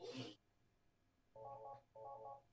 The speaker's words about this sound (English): Let me get rid of that phone call.